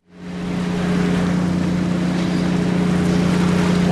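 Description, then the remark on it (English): A boat engine drones steadily and loudly, a deep constant hum over broad rushing noise as a half dozen fishing boats arrive one morning at the port in Kesenuma to unload tons of bonito, with no voices. “A half dozen fishing boats arrive one morning and unload tons of bonito, a silvery tuna-like fish.”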